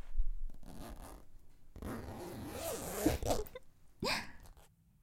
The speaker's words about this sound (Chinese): 行了，躲什么呀？赶紧过来，帮我脱一下嘛。他拉链在后面耶，我够不到了。